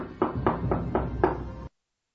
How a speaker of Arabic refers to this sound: وصلت ليلى أخيرا إلى بيت جدتها وطرقت الباب.